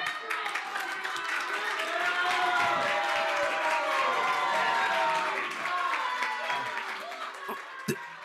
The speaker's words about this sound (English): Clapping to keep the mask mandate.